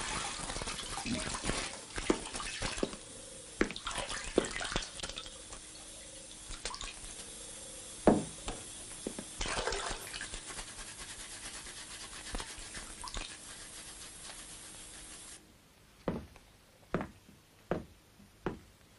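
Shower water runs in a steady hiss with scattered splashy taps, then cuts off near the end, leaving quiet broken by a few sharp knocks. No one speaks.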